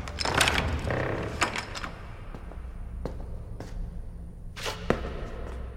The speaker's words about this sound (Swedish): Med en stor nyckel i järn låser han upp och leder oss in i den mörka byggnaden.